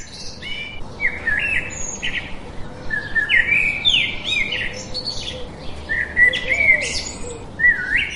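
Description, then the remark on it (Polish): Lively birdsong at Lake Sajno in the Suwałki region, a lake within a quiet zone, with many overlapping chirps and short trilling phrases over a steady, soft outdoor hush. No one speaks. “Siedzimy tu nad Sajnem. Sajno jest objęty strefą ciszy. To nasze największe jezioro i tutaj na Suwalszczyźnie jedno z większych.”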